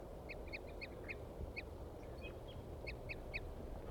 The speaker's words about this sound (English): I located some crossbills here while I was playing back four or three songs. And both birds are tooping now, pointed at the male here.